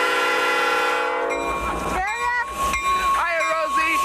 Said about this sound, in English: the Los Angeles Train Yard. This is where trains come to be fixed up, cleaned up, and tuned up, and then they can hit the rails again. It's a busy place, and it can be a dangerous one, too.